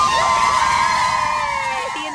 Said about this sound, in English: Eagles cheerleading squad was there to cheer him on, as you could hear.